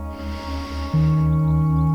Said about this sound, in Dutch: Adem eens diep in.